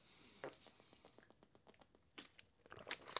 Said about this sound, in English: Let me take a big sip of water. Big one.